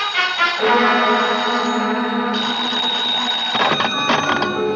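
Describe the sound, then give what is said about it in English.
A loud, steady electronic ring sounds continuously, a bright buzzing tone that shifts pitch slightly and pulses near the end, like a telephone ringing, with no voices. “I grabbed the phone and listened.”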